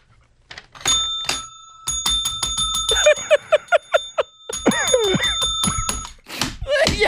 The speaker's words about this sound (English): Ring that bell.